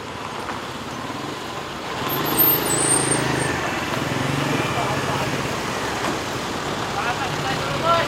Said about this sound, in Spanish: Bueno, vamos a escuchar algunos de esos sonidos que nos has hecho llegar, empezando por el sonido de tráfico, que da la sensación que bastante jaleo de tráfico hay por ahí.